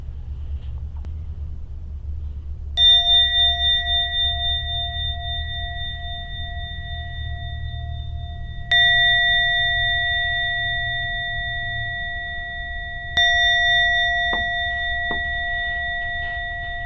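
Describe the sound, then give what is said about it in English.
A meditation bell is struck three times to end a meditation session, each strike ringing out with a clear, sustained tone that slowly fades before the next, over a low background rumble. “We'll now ring the bell 3 times.”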